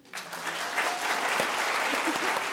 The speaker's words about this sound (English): I want to start with a little audience participation. Quick round of applause. Who here lives with an animal?